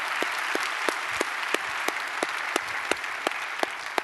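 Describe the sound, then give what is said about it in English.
A church audience applauds steadily to welcome each other, a dense wash of many hands clapping at an even level, with a few sharper individual claps popping out at regular intervals. “By applause, would you just welcome each other as we're all here together as one church.”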